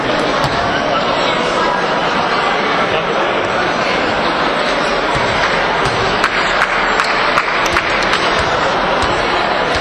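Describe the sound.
An audience applauds steadily for about ten seconds, a dense, loud wash of clapping with a few sharper claps poking through and a murmur of crowd voices mixed in.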